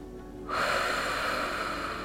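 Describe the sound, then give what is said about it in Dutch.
After a brief quiet moment, a slow, deep breath starts, a steady, airy rush of air that holds evenly to the end, part of a relaxation exercise of slow deep breaths blowing out tension. No one speaks. “Laten we samen 3 langzame en diepe ademhalingen nemen. En als we uitademen, dan blazen we alle spanning weg.”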